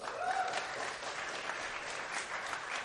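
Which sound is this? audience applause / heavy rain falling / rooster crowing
audience applause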